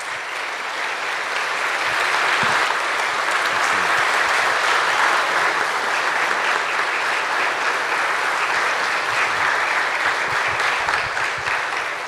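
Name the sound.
audience applause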